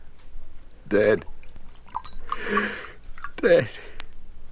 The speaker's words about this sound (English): Sit and I'll pour you a brandy.